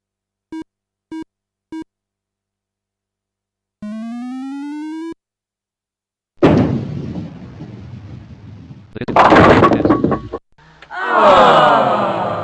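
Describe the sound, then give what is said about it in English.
Three short beeps and a rising electronic tone, then a loud rumbling roll of a bowling ball ending in a clattering crash of pins, knocking down 6 pins with the first ball of frame 9, followed by another noisy whooshing sound effect. “6 pins were knocked down with your first ball.”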